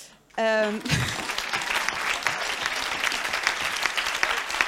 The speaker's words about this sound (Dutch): Ja, ik ken de vraag toevallig en dit applaus is precies wat ze niet wil.